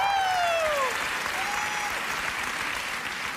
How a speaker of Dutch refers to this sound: Er zijn 200 jongeren die meegaan op Way Camp. En ik vond het applaus wat matig, want ik ben mega excited daarover. Dus laat je even horen, koning Jezus.